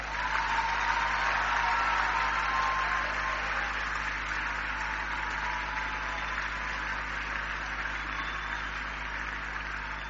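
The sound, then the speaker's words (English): A church audience claps together for Jesus in a dense, continuous wash of applause, steady and loud for about ten seconds and easing slightly toward the end, with a low steady hum underneath and no talking. “like us to take a moment and give Jesus a great clap of hand.”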